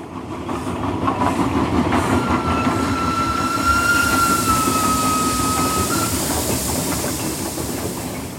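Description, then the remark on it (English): A train rumbles steadily along railway tracks on the Israel Railways Valley Train route between Haifa and Beit She'an, fairly loud, with a thin high-pitched wheel squeal rising over the noise for a few seconds midway. No one speaks. “Israel Railways renewed the operations of the Valley Train route in 2016.”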